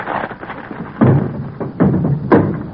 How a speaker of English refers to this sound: My girdle broke.